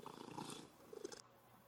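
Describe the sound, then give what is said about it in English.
A cat named Ninja purring, a soft, steady rumbling with a rhythmic pulse that continues throughout at a fairly low volume, with no talking. “Happy kitty, wiggly kitty, purr, purr, purr.”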